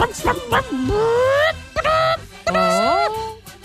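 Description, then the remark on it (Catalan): A person imitates a hen clucking as if laying an egg: a few quick clucks, then two long, rising, drawn-out cackles, loud, with no other talk. “I podries pondre un ou ara, així ràpid?”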